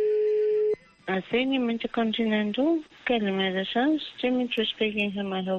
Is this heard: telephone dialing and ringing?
yes